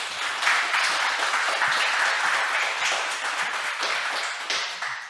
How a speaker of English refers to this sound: Let's give a round of applause for the game team.